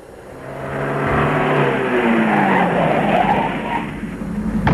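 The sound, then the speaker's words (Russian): A car engine hums steadily as the vehicle drives slowly back to town, its pitch sliding downward as it slows, with tires rumbling on the road and no voices. “мы медленно поехали обратно в город.”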